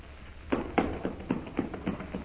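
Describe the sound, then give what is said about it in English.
Quick, evenly spaced footsteps sprinting at full speed down the east corridor of a castle, about eight sharp thuds on a hard floor in steady rhythm, moderately loud, with no voices. “Sprinting at full speed down the east corridor of the castle”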